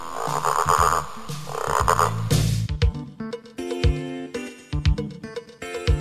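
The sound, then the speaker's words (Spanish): Frogs croak loudly, first in two long raspy calls, then in a quick series of shorter, clicking croaks with brief gaps between them. “La rana.”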